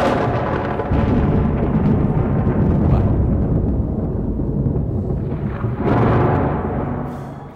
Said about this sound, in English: Now, suppose that you're out one day and you're wondering about God, and all of a sudden you see a flash of lightning, and then you hear some thunder, okay?